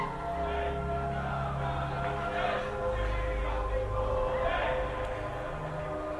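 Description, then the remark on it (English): A lively mix of many overlapping voices, early morning revelers in the street in South Dublin chattering, calling out and laughing over a steady low rumble, the noisy hubbub continuing unbroken throughout. “The early morning revelers of South Dublin.”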